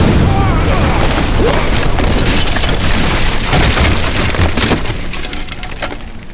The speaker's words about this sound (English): The Aeon became a twisting vortex of fire. Raoden could feel the heat as he stumbled back. It burst, spitting out a horizontal column of flame through the air, just above Galadon's head. The column crashed into a bookshelf.